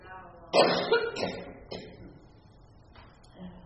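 A preacher with a persistent cough during a Sunday sermon coughs several times in quick succession, fairly loud at first, then a couple of weaker coughs trailing off with brief pauses between them.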